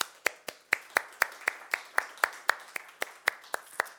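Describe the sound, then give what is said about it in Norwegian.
Applause for all mothers on Mother's Day, in the form of steady, rhythmic clapping, crisp even claps at about four per second, sustained throughout with no one speaking. “Jeg synes vi må gi en applaus først for alle mødre.”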